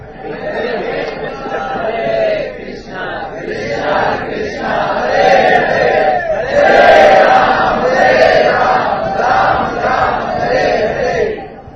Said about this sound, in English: Everybody's screaming, nobody's chanting.